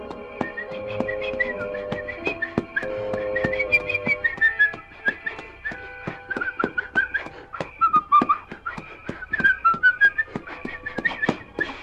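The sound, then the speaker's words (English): A man whistles a meandering tune at night while approaching a tree in the darkness, clear, with notes gliding up and down over about twelve seconds, accompanied by a light tapping, plucked backing underneath. “As he approached a tree whose limbs were gnarled and fantastic in the darkness, he began to whistle.”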